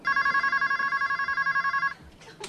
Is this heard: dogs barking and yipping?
no